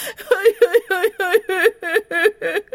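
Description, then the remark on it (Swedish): A voice of a person pretending to be a sad, crying dog imitates whimpering sobs: about nine quick, high-pitched whimpers in a steady rhythm, each with a wavering rise, fairly loud and with no talking. “Hu och bu, uff, uff, gråt, snyft och svälj. Jag är så ledsen.”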